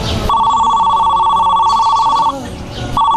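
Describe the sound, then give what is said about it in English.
A phone ringing tone heard over a speakerphone during a call to the police: a steady electronic ring lasts about two seconds, breaks off briefly, then starts again, fairly loud and slightly tinny against a faint background. “In fact, let me call them right now. I'll put the phone on speaker in case they need to ask you something.”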